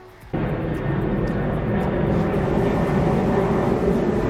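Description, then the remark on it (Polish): A jet airplane roars overhead, its broad, steady engine rumble rising abruptly and holding loud and continuous, dominating the scene with no voices. “to chyba ten do Aten.”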